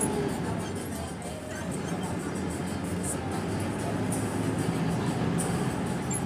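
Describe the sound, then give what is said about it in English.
Steady rumble of a new Taxi Rutero co-op city bus engine idling amid street traffic on 31st Street in Havana as someone is about to board, with a continuous roar and indistinct voices murmuring in the background throughout. “Here I am on 31st Street about to get onto the new bus.”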